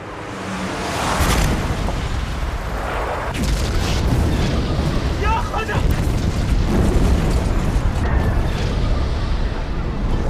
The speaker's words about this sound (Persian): شاید از اون روزی که برادرم توی جنگ از صدای گلوله و خمپاره و بوی بارود ترسید.